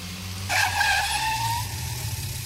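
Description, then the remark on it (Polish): A bus pulls up at a forest bus stop with a loud, drawn-out screech of skidding tires lasting over a second, then fading, above a steady low engine rumble. “Leśny autobus nadjechał w porę.”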